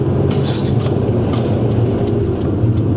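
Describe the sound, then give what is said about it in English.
A steady, loud low rumble of car noise fills the whole stretch, like an engine and road drone, with faint light ticks recurring over it. No one speaks. “What was that? Was that my car?”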